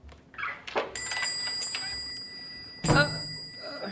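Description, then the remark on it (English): A clock strikes seven o'clock on Christmas Eve with slow, resonant chimes, each ringing tone lingering and overlapping the next, against a faint background of clatter and noise. “Mr. Scrooge, it's 7 o'clock, sir, and it is Christmas Eve.”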